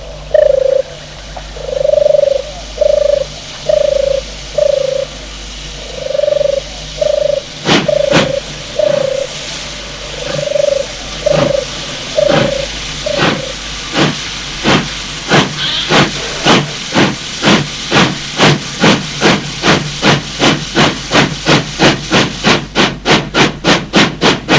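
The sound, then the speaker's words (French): An old steam locomotive pulls away, its loud hissing chuffs starting slow and spaced, then speeding into a rapid, steady rhythm, with a low repeated mechanical tone early on. “C'est un vieux train à vapeur, comme tous les trains que vous avez dans ces histoires.”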